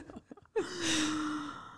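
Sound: imitated heavy breathing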